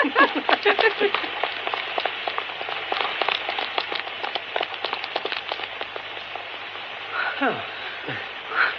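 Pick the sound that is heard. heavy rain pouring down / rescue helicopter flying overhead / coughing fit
heavy rain pouring down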